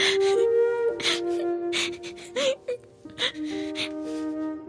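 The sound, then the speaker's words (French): A child whimpers and cries in short, sniffling sobs and gasps over soft, sustained background music, moderately loud. “Ne pleure pas, on va le retrouver.”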